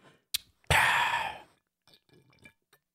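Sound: drinking water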